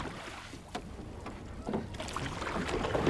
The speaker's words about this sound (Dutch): We zitten in een hele oude, maar prachtige roeiboot. Een wherry heet dit